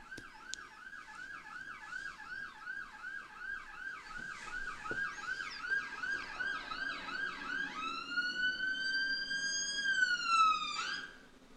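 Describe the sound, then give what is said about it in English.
An ambulance heading to Withenshaw Hospital in South Manchester sounds its siren outside, a rapid yelping warble that switches to a long steady wail, growing slightly louder before cutting off abruptly. No one speaks. “Ambulance heading off to Withenshaw Hospital, South Manchester.”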